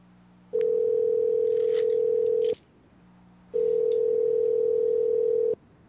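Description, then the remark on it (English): Two long, steady electronic ringback tones from a phone call, each lasting about two seconds with a pause between, heard alone over a faint background hum with no one speaking. “If I call, I got somebody who wants to talk to you.”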